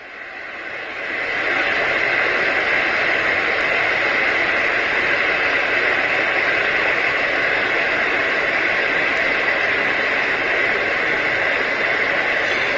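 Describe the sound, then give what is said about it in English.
An electric kettle unit of a coffee maker boiling water, a steady, loud rushing hiss that swells up in the first second and then holds constant with no talking. “It just sounds like an average kettle boiling, really.”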